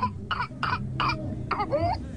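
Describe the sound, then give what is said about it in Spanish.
A rapid string of harsh whooping cough (pertussis) coughs, about five in quick succession, ending in a high, rising whoop as breath is drawn back in. It is fairly loud, over a low background hum, with no talking. “Se caracteriza por una tos intensa que puede durar semanas y, en casos graves, causar neumonía, convulsiones o incluso la muerte.”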